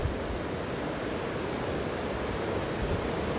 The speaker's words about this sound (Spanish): Escucho las olas de mar, cómo vienen y van.